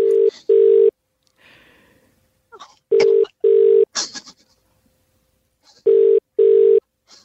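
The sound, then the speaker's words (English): A telephone line rings out in three evenly spaced double-buzz rings, steady and clear, after brief faint clicks of a number being punched into a phone system; no one speaks. “We've got his number here. Jesse is just punching it into the system.”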